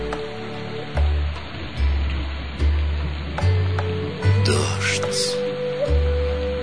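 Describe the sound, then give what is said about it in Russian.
Steady rain patters continuously on window glass, a dense wash of small drops, with a low droning tone swelling and pulsing underneath at regular intervals. “Капли стучат по стеклу, их монотонный ритм отражается в сердце, поднимая из глубины души бессознательную тоску и ностальгию почему-то безвозвратно утраченного.”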